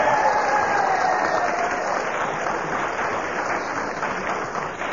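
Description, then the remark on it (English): A studio audience applauds steadily throughout, a dense wash of clapping that holds a fairly even loudness for the full five seconds before easing off only slightly at the end. The Kenneth Williams fan club is in the audience, applauding because Kenneth Williams was speaking when the whistle went. “And Kenneth was speaking when the whistle went, and they made quite certain that they applauded the fact, and...”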